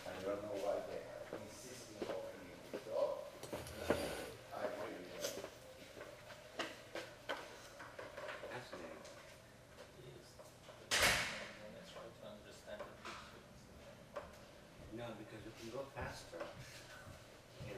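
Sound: door being closed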